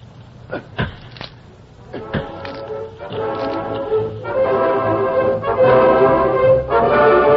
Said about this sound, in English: Yeah, here's an axe. Use it. Start swinging on that box.